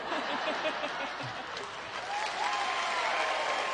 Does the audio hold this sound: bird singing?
no